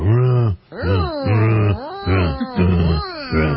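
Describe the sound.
A voice imitates a car engine cranking on a weak battery: a loud run of five or six low, groaning vocal pulses that rise and sag in a labored, rhythmic pattern.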